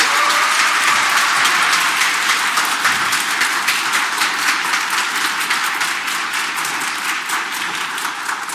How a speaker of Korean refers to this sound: 환영의 박수 우리 한번 보내드릴게요.